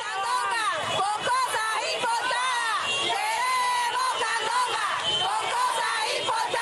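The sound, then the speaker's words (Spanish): A large crowd protesting restrictions on local markets shouts in front of the Poder Popular government headquarters in Santa Clara, Cuba, a loud, sustained roar of overlapping voices, with rising and falling yells and chant-like surges running through the whole stretch without a break. “Se oye gritar a varias personas frente a la sede del gobierno del Poder Popular en Santa Clara en un video publicado en una cuenta de Facebook”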